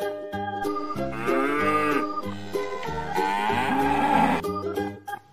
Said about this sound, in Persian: درسته که شاخ داری یه گاو مهربون باش، بازم بگو ما و ما علف برات میارم، فقط یکم شیر میخوام، کاری باهات ندارم.